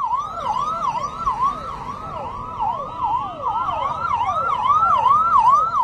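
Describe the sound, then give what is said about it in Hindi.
A police vehicle siren wails loudly and continuously, from the police vehicle taking Arvind Kejriwal to jail, its rapid rising-and-falling sweeps repeating and overlapping over a low rumble of traffic, with no one speaking. “Jail में बंद विपक्ष के बिना 2024 के चुनावी लोकतंत्र में दो ही आवाजें सुनाई देंगी, सैकड़ों चैनलों पर गूंजती हुई प्रधानमंत्री नरेंद्र मोदी की आवाज और दूसरा केजरीवाल को जेल ले जाती पुलिसिया गाड़ी के हूटर की आवाज।”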